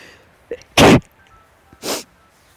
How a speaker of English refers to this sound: Can't imagine why somebody might sneeze in a forest like this.